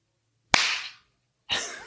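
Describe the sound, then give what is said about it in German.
A single sharp hand clap, made to resynchronize recording tracks, cracks out of silence and rings off briefly, followed about a second later by a softer, hissy burst of sound. No one speaks. “Ja, da muss ich jetzt einklatschen, weil sonst sind wir nicht mehr synchron.”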